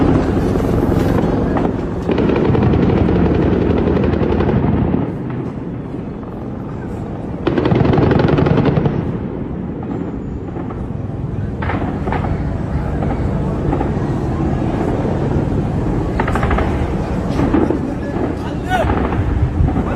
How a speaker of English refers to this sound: Here are some more explosions taking place over inside of Gaza City as the IDF continues their assault.